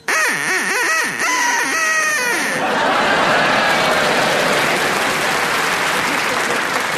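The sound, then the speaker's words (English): A rapid run of nasal, wavering duck quacks lasts a couple of seconds, then gives way to loud, sustained applause and laughter from an audience. “can you make your duck quack now, please?”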